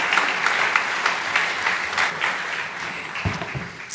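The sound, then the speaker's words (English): An audience claps steadily for several seconds in a round of applause for two people who have just spoken, a dense, even patter of applause with no voices standing out. “Could you guys give them a round of applause?”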